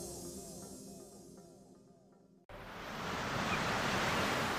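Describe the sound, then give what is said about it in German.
A soft musical passage fades out and gives way to a steady, full rush of ocean surf below a sea cliff at sunset, a broad roaring wash that swells louder. “Ich stehe an der Klippe und schaue aufs Meer.”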